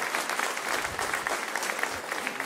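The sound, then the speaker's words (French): Steady applause from a church audience, giving a show-of-approval vote by applause for the redesigned reception hall, many hands clapping densely and continuously at an even, moderate loudness with no voices standing out. “Qui est content par rapport au hall d'accueil et le réaménagement, l'espace et tout ça? Juste par applaudissement.”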